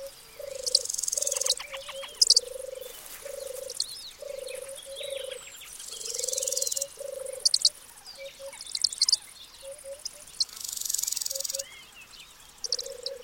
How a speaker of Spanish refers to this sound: Una tórtola arrulla en una encina próxima, cerca de una abubilla.